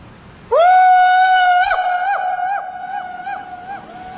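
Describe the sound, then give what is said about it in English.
A single loud, high-pitched yell rings out and holds for several seconds, wavering rhythmically as its echo rolls back and slowly fades. “That's an echo, sir.”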